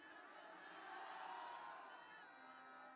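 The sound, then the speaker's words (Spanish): A large crowd in a stadium in Minatitlán, Mexico shouts and cheers in a sustained, roaring wash of many voices, swelling slightly in the middle before holding steady, loud and reverberant throughout. “Ese grito que se oye hoy en este estadio es el grito que se oye en todo el país.”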